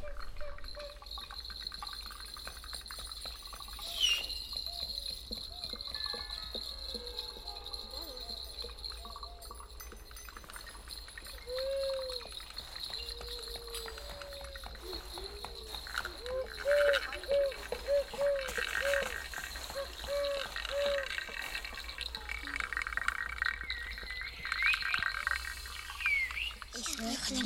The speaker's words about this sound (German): Ich höre den Wind, das Knarren unter den Füßen und das ganz große, das ich von den Blättern nicht rausgehe.